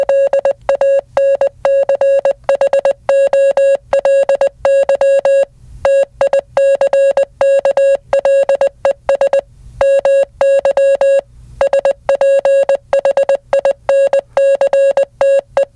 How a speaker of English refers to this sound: What was that? That was Morse code for melancholy tickles my sphincter.